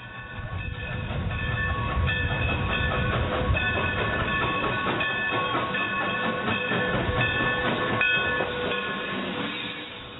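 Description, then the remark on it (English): A train rolls steadily along railway tracks, a loud rumble with rhythmic clacking of wheels and a sustained high metallic tone running through the whole stretch. “Train is going down, baby.”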